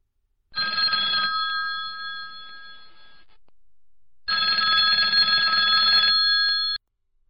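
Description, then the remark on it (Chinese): A telephone rings in two long bursts separated by a pause, the bright, steady bell tones fairly loud and close, with the first ring fading slightly before stopping. No one speaks. “一个人在外唱歌，最盼望和家里人打电话，可一拿起电话又不知道该说什么。”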